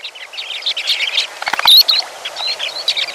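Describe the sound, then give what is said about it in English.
A flock of sandpipers on coastal tide flats calls in a continuous chatter of high, thin chirps and twitters, many birds overlapping, with a few brief louder peeps standing out above the dense murmur. “Surely those swirling masses of sandpipers that graced the coastal tide flats by the tens of thousands in April must be back now, performing with a final flourish, before migrating further south.”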